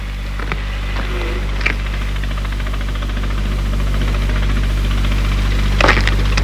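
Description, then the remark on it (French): A chauffeur-driven car's engine runs steadily with a low, rumbling drone and faint knocking, slowly pulling up to a house as the chauffeur gets out to open the gate and bring the car to the entrance, with a few sharp clicks or thumps near the start and end. “Le chauffeur sort de voiture pour ouvrir le portail et mettre la voiture devant l'entrée de la maison.”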